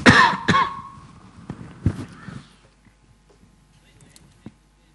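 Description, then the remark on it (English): A loud cough bursts out at the start, followed by a few smaller coughs and throat-clearing sounds that fade into near silence. “Cough again.”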